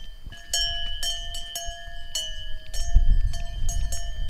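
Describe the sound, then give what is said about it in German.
Cowbells on cows at a farm clank repeatedly and unevenly, several bright metallic strikes with lingering ringing tones, over low rumbling farmyard noise and shuffling, with no talking. “Das da ist Lisa, die da hinten, die nur noch ein Horn hat.”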